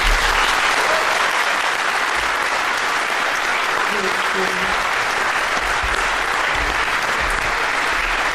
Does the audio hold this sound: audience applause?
yes